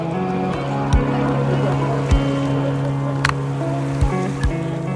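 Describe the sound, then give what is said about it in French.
Sea waves thud against a wall on an eroded shore where no beach is left, every second or so, heavy low impacts over a constant rushing wash and a steady low hum, loud. “Non seulement les vagues tapent le mur, mais les vagues vont jusqu'aux concessions.”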